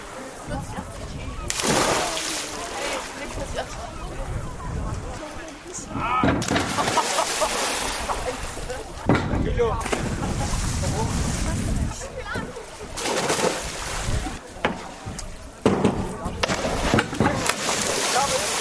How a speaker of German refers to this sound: Das sind Sprünge vom 1- und 3-Meter-Brett bei herrlichstem Wetter. 26 Grad hier im Naturbad Falkenwiese. Strahlend blauer Himmel und die Wakenitz ist wunderbar kühl.